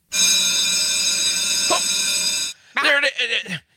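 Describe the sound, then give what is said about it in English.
The "democracy in action" bell rings loudly and steadily for about two and a half seconds with a bright, buzzing metallic tone, then cuts off abruptly, followed by a brief voice. “That was the bell.”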